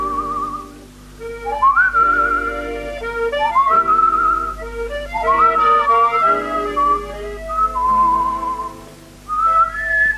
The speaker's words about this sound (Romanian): La o masă, Marco își fumează pipa, fluierând alene o melodie.